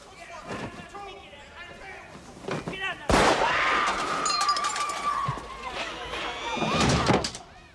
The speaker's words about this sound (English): A gun is fired outside.